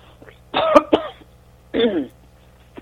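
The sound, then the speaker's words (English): A person clears their throat before reading a poem aloud, a rough raspy burst with a couple of sharp catches, then a second gravelly rumble after a short pause, with no talking. “Hold on, I have to clear my throat.”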